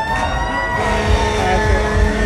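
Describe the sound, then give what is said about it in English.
A loud fire alarm siren blares continuously, a steady high-pitched tone with layered harmonics over a low rumbling undertone, with no one talking. “That fire alarm means the podcast is coming to a close.”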